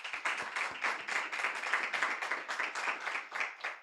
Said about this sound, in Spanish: Vamos a dar palmas al Señor, hermano.